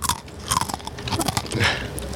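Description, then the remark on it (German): Someone bites into a pretzel stick and chews it, producing a run of sharp, dry crunches in quick irregular succession, fairly loud with no talking. “Ich esse mal eine Salzstange.”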